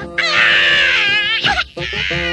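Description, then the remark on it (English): A baby, Lion-O, wails loudly in long, high-pitched sustained cries, breaking briefly into a sobbing hitch before the howling resumes. “Maybe this'll get the little guy to stop all that howling.”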